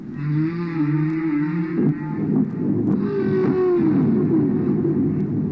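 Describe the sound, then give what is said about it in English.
Underwater recording of whale sounds, made by sound engineer and military researcher Frank Watlington while listening for dynamite explosions: long, low moaning calls that waver and sweep in pitch, one fading after about two seconds and another rising and falling later, over a constant loud hiss with faint clicks. “That's what Frank was listening for, and the whale was just getting in his way.”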